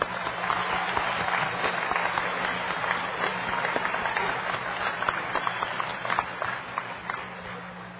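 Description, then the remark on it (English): An audience at a meeting applauds steadily for about eight seconds. Many hands clap in a dense, even wash of sound that holds its level before easing slightly at the end. “I think we should have a hand of applause for that.”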